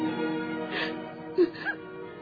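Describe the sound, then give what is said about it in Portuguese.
A woman in her bedroom, overcome by sadness, cries with deep sobs and whimpers, breathy gasps and short rising wails over a low, steady moan, with no words spoken. “Dentro de seu quarto, no entanto, Lívia não consegue suportar a tristeza e desaba em choro profundo.”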